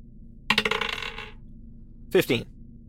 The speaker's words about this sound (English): Roll me just a straight d20 for the hammer.